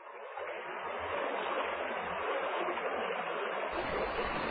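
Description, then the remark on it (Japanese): Steady rushing water of a river flowing north to south in a hilly area, formed by two streams joining just upstream; a broad continuous wash with a low rumble underneath and no voices. “一山越えて東側へ出ると、南北に流れる川に出くわす。”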